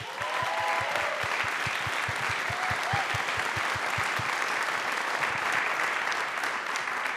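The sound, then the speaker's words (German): An audience applauds Nils Bokelberg steadily, dense clapping filling the whole stretch, with a few faint whistle-like tones early on and a rhythmic low thumping through the first half. “Ein kleiner Applaus für Nils!”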